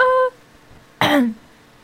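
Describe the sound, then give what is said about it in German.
A single short, forceful cough bursts out after a brief voiced sound, then quiet returns. “Muss ich nämlich einmal niesen oder husten.”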